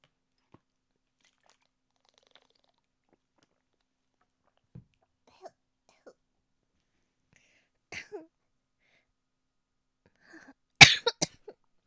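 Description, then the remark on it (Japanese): A short burst of several dry, harsh coughs from a very dry throat near the end, fairly loud, after a long quiet stretch with only a few faint mouth and swallowing noises. “ごめんなさい、咳しちゃった。カラカラしすぎちゃって。”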